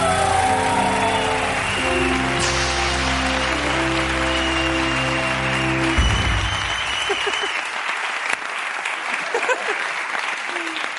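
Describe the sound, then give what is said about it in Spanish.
Steady, dense audience applause for London Olympic champion Lidia Valentín runs throughout, with a tonal musical backing underneath for the first half that cuts off abruptly, leaving the clapping on its own with a few scattered louder claps. “Un aplauso para Lidia Valentín.”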